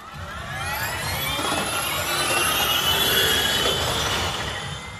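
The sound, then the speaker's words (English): A loud, high-pitched electric motor whine from a Formula E electric race car on track at Donington Park Raceway, Britain, swells and slowly rises in pitch over several seconds, with layered tonal harmonics over a rushing roar and no voices. “with the launch of the Formula E World Championship, E4 electric race cars, where the E cars have just taken to the track in anger for the first time.”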